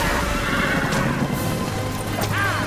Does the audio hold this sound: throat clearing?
no